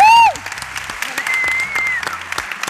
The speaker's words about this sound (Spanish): y la he detectado en la entrada y quiero que le demos un aplauso y que la recibamos con sorpresa.